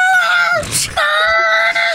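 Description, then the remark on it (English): A duck lets out loud, harsh squawks: two long, nasal, gull-like cries separated by a brief raspy, noisy burst, with no one talking over them. “Why does your duck sound like a vulture? It's like a seagull.”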